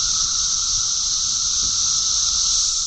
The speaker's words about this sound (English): Trillions of cicadas are starting to emerge above ground in the eastern U.S. Not millions or billions, trillions of these insects, from Indiana to Georgia to New York.